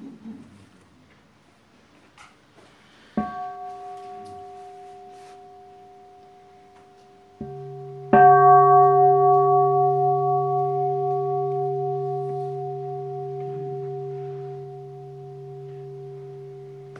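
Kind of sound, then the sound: signal or alarm, bell ringing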